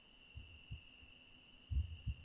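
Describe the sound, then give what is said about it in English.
Low, muffled heartbeat thumps in a person's chest in a lub-dub pattern, two beats then a stronger pair, deep with a faint steady hum in the background. “Can you hear my heart beating in my chest?”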